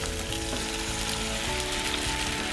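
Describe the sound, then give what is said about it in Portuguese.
A steady sizzle of corn frying in a pan with golden onion, with soft scraping and clattering as it is stirred. The crackle stays even throughout, with no voices. “Agora que a cebola ficou dourada, eu vou juntar o milho, porque é a coisa mais resistente, a mais durinha aqui, e dou uma fritadinha gostosa. Olha só, mexendo.”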